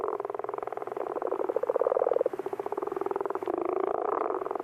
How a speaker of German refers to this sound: Ja, aber sie haben das Krötengeräusch wirklich ganz gut nachgemacht. Hört mal, hier quaken die Echten.